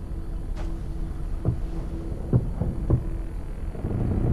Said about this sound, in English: She turns to the creaking sound.